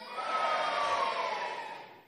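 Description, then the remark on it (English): An audience cheers together on cue at a held-up cheer sign, in a loud, sustained burst of yelling and whooping, one high voice standing out, lasting about two seconds before tapering off. “So all you need to do, when we hold up a cheer sign, we want you to go...”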